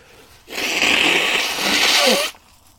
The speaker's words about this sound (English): Oh, I'm going to have to blow my nose now. Hang on.